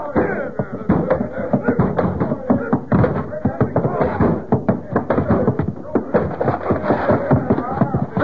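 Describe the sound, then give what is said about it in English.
A door is battered down by men with a rapid, relentless series of loud, heavy thuds and whacks, continuous for several seconds, with voices mixed in among the blows. “Break that door down. Come on, men, get at it.”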